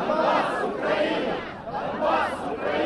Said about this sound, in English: The crowd chants, "Donbas Ukraina," meaning this region, Donbas, is part of Ukraine.